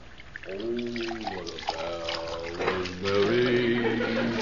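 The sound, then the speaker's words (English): Water pours into a glass with ice cubes, a steady trickle whose pitch climbs as the glass fills, with voices murmuring in the background. “ain't you got that glass of water yet? Oh, I haven't troubled with these ice cubes.”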